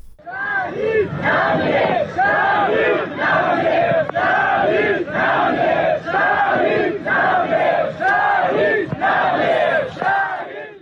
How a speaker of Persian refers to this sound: پیکر حمید مرادی، وکیل دادگستری و فعال محیط زیست که در جریان مهار آتش‌سوزی کوه آبیدر سنندج جان خود را از دست داد، با حضور گسترده مردم و در میان شعار شهید نمی‌میرد تشییع و به خاک سپرده شد.